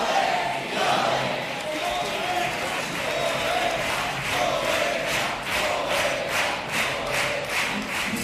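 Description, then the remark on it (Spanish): A large crowd chants "poeta, poeta" and shouts in unison at a performer's ending, rhythmic bursts of voices repeating over a constant roar, with claps and cheers mixed in throughout. “Los gritos de poeta, poeta, que en el remate nos ha hecho un quiebro ahí.”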